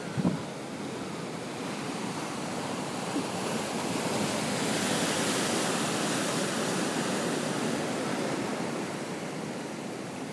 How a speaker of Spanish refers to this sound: De verdad que os grabaría 10 minutos de audiobook que dura esto, de mar, mar y mar. Precioso, ¿eh? Pero bueno. Pues esto es El peine de los vientos.